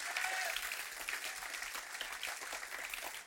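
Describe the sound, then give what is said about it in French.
An audience applauding the Lord during a church service, a dense, steady wash of many hands clapping together, sustained, with faint voices mixed into the clapping. “Voulez-vous applaudir le Seigneur et dire, Seigneur, on va le représenter à nouveau.”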